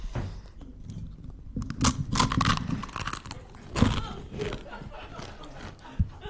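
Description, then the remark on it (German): Crisp, crackly crunching of a waffle sprinkled with the contents of a small sachet being bitten and chewed, with bursts of sharp crackle around the second and fourth seconds over a low background murmur. “Und dieses Tütchen verstreuen Sie auf dieser Waffel und dann gleichmäßig können Sie, dann können Sie kräftig, ich mach das jetzt.”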